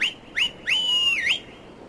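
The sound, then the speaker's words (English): A shrill call whistle summoning a horse in a video game: two quick rising chirps, then a longer steady note that bends up at both ends, clear, with no talking. “So, I'm just going to whistle up the horse here.”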